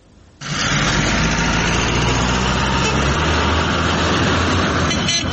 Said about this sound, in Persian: اینجا در منطقه تاجکان ولسوالی جبل سراج ولایت پروان، جایی که بعد دروازه ورودی دره کوهستانی سالنگ منتهی می شود، کاروان بزرگی از موترهای باربری توقف داده شدند.